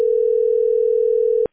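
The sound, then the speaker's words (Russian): A steady, unbroken telephone line tone hums at one mid-low pitch for about a second and a half while a phone call is being placed, then cuts off abruptly with a faint click. No voices are present. “Просто там телефон.”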